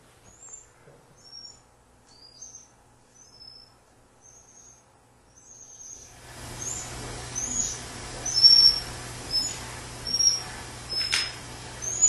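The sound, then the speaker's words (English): Rat calls lowered in pitch into a hearable range: a steady series of short, high, bird-like chirps, repeating every half second or so, with a hissing, humming background joining midway. “Now I'm going to play you the sound of a rat.”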